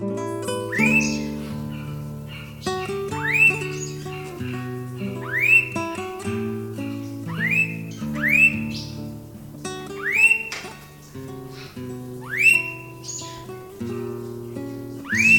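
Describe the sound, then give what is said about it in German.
A blue-faced honeyeater gives loud, clear upslurred whistled calls, repeated about every two seconds, over a steady low tonal hum like background music, with no one talking. “Das war der Blauohr-Honigfresser.”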